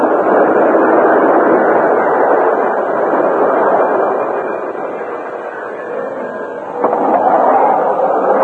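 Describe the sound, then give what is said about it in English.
A loud, steady rumble of a westbound express train rolling along the tracks as it slows to a stop at a railroad station east of Redtown, easing off briefly in the middle before swelling again, with no voices present. “Some days later, at the railroad station east of Redtown, the westbound express slowed to a stop.”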